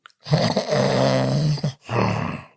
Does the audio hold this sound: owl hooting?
no